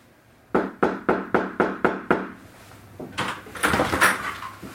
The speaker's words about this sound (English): And this is the first time that you see the police coming and knocking on the door of apartment 4 at 3003 Springfield Drive.